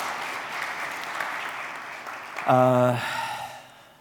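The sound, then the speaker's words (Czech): An audience applauds the speaker's wife in a steady, dense wash of clapping for a couple of seconds; a short voiced cry rises over it near the end before the clapping fades out. “Zatleskejte mé ženě.”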